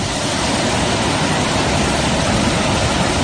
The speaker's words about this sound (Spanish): Es un torrente de Sóller, como tantos otros torrentes que van hasta los topes de agua, incluso algunos se han desbordado en nuestras islas, especialmente en Mallorca.